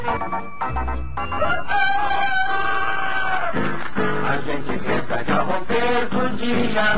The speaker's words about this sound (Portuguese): O galo canta pra saudar o sol.